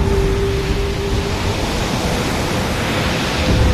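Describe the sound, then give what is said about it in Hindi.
A loud, unbroken roar of rough ocean waves churns steadily for a few seconds, dense with no pauses, while a faint steady tone hums briefly near the start. No one speaks. “प्रभु, समुद्र देव तो और भी भयानक रूप धारण करते जा रहे हैं।”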